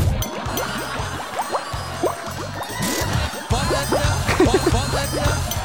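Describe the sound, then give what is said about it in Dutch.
Steady bubbling water churns throughout, a dense stream of small popping and gurgling bursts over a low continuous rumble, moderately loud with no voices. “De bubbeltjes even uitzetten.”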